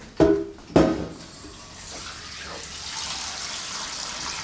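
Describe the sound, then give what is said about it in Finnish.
Water runs steadily into a large pot holding about 1.5 kilograms of small perch, enough to cover the fish, a broad rushing hiss that carries on for several seconds after two sharp knocks at the start, with no voices over it. “Sitten siitä pannaan suolaa mausteeksi ja sitten vettä niin paljon, että se peittyy. Siis laskepa lisää tähän.”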